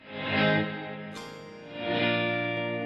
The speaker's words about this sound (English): So like this one. you know, it's called, so that's a reverse delay. Then we've got like a swoosh, which is even more reverse.